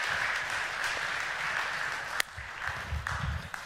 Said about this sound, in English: Put your hands together and clap and just say, thank you, Jesus.